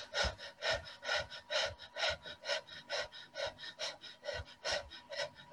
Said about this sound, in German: Jetzt füllen wir unsere Lunge circa zu 60% und atmen stoßweise aus.